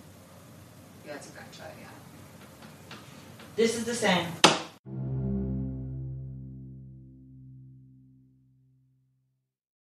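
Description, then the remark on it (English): A person speaks briefly, then a storm door swings shut with a rattling clatter and a sharp bang, followed by a long metallic ringing hum that slowly fades out. “Do you feel like you would have known the difference between the bang and the door and that storm door closing?”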